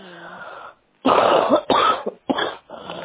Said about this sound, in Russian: У меня вот кашель начался такой уже прям вот легочный такой хриплый.